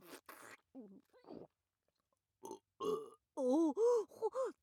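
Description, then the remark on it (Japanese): A series of throaty burps and grunting noises, brought on by sucking on snot, several short bursts growing louder and more drawn out toward the end, with no talking. “鼻くそしゃぶりすぎて、ゲップまで出ちゃいました。”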